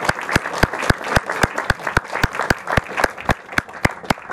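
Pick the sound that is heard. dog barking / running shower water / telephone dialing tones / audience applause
audience applause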